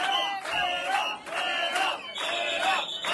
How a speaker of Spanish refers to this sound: Entre gritos y abucheos, los trabajadores municipales de Alcobendas denunciaban hoy que PSOE y Ciudadanos están frenando la firma del convenio laboral.